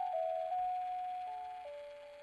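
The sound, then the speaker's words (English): A baby's musical mobile plays a slow, simple tune inside a small car packed with gear on a road trip across America, its pure chiming notes stepping gently from pitch to pitch. The melody sounds soft and steady, with no voices. “In the time capsule of our small car, packed to the gills with gear, 3 people, and a 90-pound dog, the panorama of America flashed by our windows like a movie set to the soundtrack of our son's musical mobile.”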